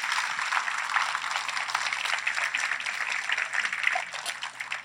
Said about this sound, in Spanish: Ahora sí puede darle un fuerte aplauso al Señor.